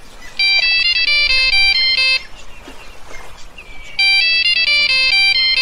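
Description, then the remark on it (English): A satellite phone rings with a bright, warbling electronic tone in two loud bursts of rapid stepped notes, separated by a short pause filled with faint rustling noise. “Well, that was tremendous that we received that satellite phone, wasn't it?”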